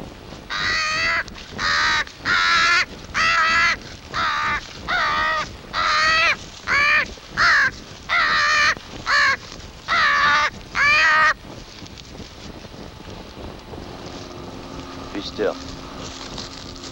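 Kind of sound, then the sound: bird, crow cawing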